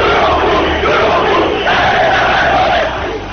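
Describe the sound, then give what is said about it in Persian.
A large crowd of protesters in the streets of Iran, after the elections of 1388 (2009), chants and shouts slogans together in a loud, continuous roar, voices rising in waves with a rough, rhythmic slogan-like cadence throughout. “منتها زمان گذشت و گذشت و گذشت تا رسیدیم به سال 88 و ماجراهای بعد از انتخابات، که مردمی که از شعار خسته شده بودن به جایی رسیدن که خودشونم برای شعار دادن و داد زدن و خواستن خواسته هاشون پا گذاشتن به خیابون ها.”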